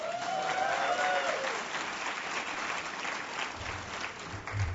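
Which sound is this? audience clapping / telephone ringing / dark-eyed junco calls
audience clapping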